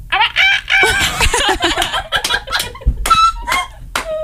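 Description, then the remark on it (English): A person does a loud vocal imitation of a rooster crowing, a drawn-out strained cock-a-doodle-doo followed by a few shorter squawking calls. “Okay, this is my rooster.”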